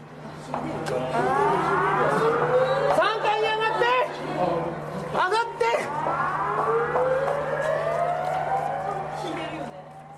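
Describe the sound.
A tsunami warning siren wails over the city loudspeakers of a seaside town, warning that a tsunami is coming, its tone sweeping upward again and again with an echoing quality, while indistinct voices and a low steady hum sit underneath.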